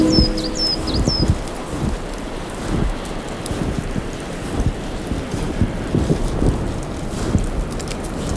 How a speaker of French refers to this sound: Le vent est en train de chasser les nuages.